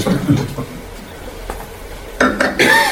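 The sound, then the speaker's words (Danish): A few bright glassy clinks ring out as drinking glasses are touched together in a toast, the last one sustaining a short shimmering tone, amid light tabletop clatter and faint background murmur. “Det er den første gang i 100 år, jeg ikke kører hjem. Skål.”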